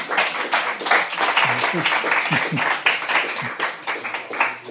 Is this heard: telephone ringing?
no